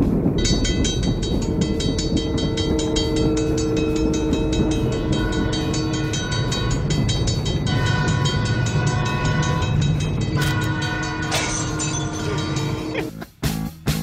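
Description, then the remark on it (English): A loud train sound effect: a train rumbles past with steady rhythmic clatter of wheels on track and long, droning horn tones sounding throughout, then breaks off abruptly at the end. “Fridge was described as a train sound effect.”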